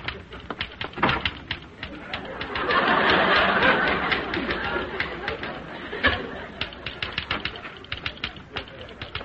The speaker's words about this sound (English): stop typing this instant.